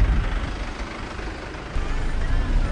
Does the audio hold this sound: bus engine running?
yes